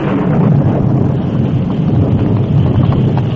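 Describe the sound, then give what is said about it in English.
A sudden thunderstorm's wind roars in a loud, steady, dense rush of noise that holds without a break for the whole few seconds, with no voices. “A short time after the Lone Ranger and Tonto started to help in the search, a sudden thunderstorm broke.”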